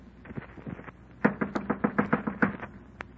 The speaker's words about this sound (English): Clenched my teeth and my knuckles and knocked on the door.